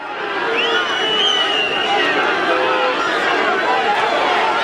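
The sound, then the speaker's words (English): A large crowd in the streets of Donetsk heckles and jeers captured Ukrainian soldiers being marched through by pro-Russian separatists, a dense, steady roar of overlapping angry shouts with a few higher yells and whistle-like cries cutting through, loud throughout. “pro-Russian separatists, insurgents, Angela Stent said, marched, captured Ukrainian soldiers through the streets of Donetsk, which they control, where they were heckled, had beer bottles thrown, punched, spit upon by large crowds.”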